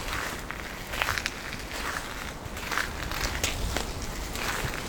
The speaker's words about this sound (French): Nous marchons au bord du lac.